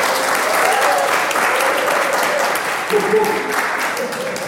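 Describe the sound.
Sustained applause from an audience fills a reverberant hall, dense steady clapping that holds loud throughout, with a few faint voices murmuring underneath.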